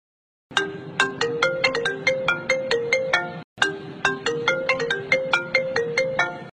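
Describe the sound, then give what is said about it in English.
A phone rings during an outgoing call to a friend, with a bright, melodic electronic ringtone, playing its tinkling note pattern twice in a row with a brief pause between, loud, with no voices. “Shall we call him to see what's wrong?”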